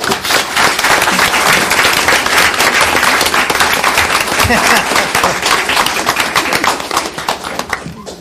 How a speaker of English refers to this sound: and I urge everyone to give her a round of applause.